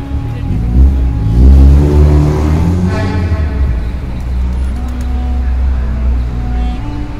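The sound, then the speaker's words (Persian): A bus engine revs up and rumbles steadily as it drives off carrying a group back to their hotel, a loud low-pitched drone with rising harmonics, and faint voices murmur in the background. “بعد از جمع‌آوری مختصری اعانات برای صندوق حسینیه و در ضمن خرید قدری سوغاتی از غرفه های اطراف، با شیعیان شریف اهل بیت رسول اکرم در این مدینه قریب خداحافظی می کنیم و سوار بر همان اتوبوس ها برمی گردیم به هتل.”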